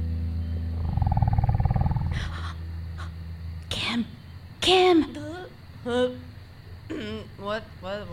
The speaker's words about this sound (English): There's something, an animal? I don't know. I heard growling.